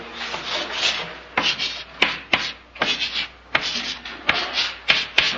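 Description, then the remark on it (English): Someone writes the word 'jesses' on a board: a quick series of dry, scratchy strokes broken by sharp little taps, in an uneven rhythm, fairly loud, with no voices. “Come on, you're going to show us on the board.”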